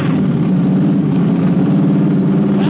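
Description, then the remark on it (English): An old car engine labors as the driver tries to start it, belching smoke, a loud, steady, rough churning that continues without pause and with no voices over it. “Daddy's driving up front. And he's trying to start the Ole Miss game.”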